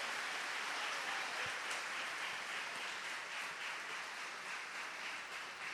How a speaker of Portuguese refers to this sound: Amém! Uhul! Vamos aplaudir Jesus!